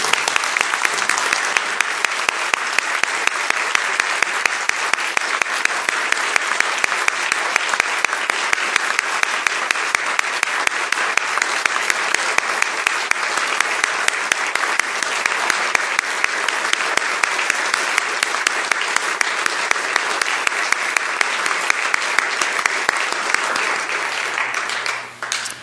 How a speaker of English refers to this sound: Would you stand with me now and applaud our falling heroes from the conflicts of Iran and Afghanistan.